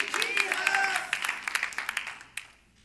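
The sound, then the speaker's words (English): An audience claps in praise to the Lord in a dense burst that thins into scattered, sharp individual claps before fading out, with a few voices calling out over the applause. “Can we give the Lord a hand clap of praise and thank you for what he's done and what he's going to do?”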